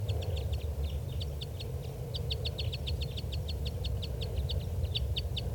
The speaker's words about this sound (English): Okay, the playbacks are going on right now behind the tape recorder at low volume. And these are the playbacks of a different bird.